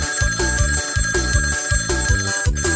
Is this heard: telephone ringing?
yes